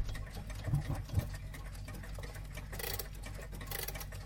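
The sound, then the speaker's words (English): An old alarm clock being wound up: a quiet, steady run of rapid mechanical ratcheting clicks, with a couple of brighter bursts of scraping near the end and no voices. “In fact, I've got a clock here that I want to wind up.”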